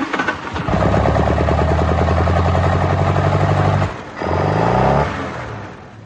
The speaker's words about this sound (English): Even as I spoke, the doors of the Woodfield garage opened, and a small green car staggered out.